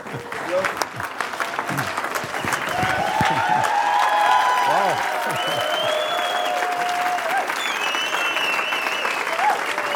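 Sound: audience applause and cheering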